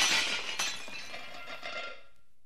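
A dish dropped on the floor while being dried smashes with a bright, sharp crash, followed by a scatter of tinkling shards and a second impact that ring out and fade over a couple of seconds. No one speaks.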